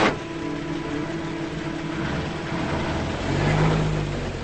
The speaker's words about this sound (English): Reckon it's safe? I sure hope so. He shifts the truck into gear and pulls forward.